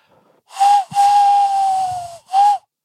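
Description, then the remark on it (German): A tawny owl call imitated by blowing into cupped hands: three breathy, hollow hoots, a short one, a long slightly falling one, then another short one, with no other sounds. “Der Waldkauz.”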